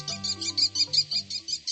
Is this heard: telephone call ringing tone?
no